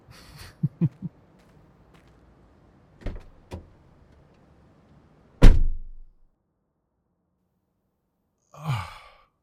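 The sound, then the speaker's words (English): A few soft thumps and shuffles of someone climbing into a car, then one loud door slam with a deep resonant thud, followed later by a breathy sigh. “Let's get in the car and go now.”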